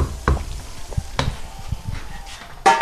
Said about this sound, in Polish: Krupka się gotuje. Co dobrego pani przygotowuje? Widać, że krupnik duży garnek. Dzisiaj będzie na obiad pełny garnek. Jeszcze troszkę będzie gotowa.